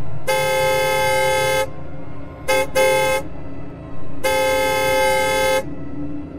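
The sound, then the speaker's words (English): A car horn is honked loudly by the driver in a long honk, then two quick short taps, then another long sustained honk, over a low rumbling engine idle. “Hoping he would get off, I honked the horn.”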